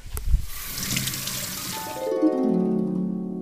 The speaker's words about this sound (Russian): Девочка достала из буфета стакан, подошла к раковине, повернула кран.